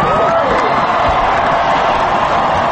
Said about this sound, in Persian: سپس جمعیت حاضر به تشویق اوباما پرداخت.